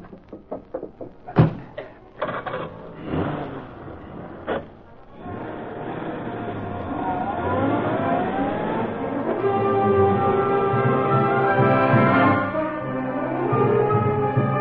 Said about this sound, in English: Undetected, the two crooks made their way down the fire stairway and through a side exit of the hotel. The day employees had not yet come on duty, and no one saw them step into their car and drive away.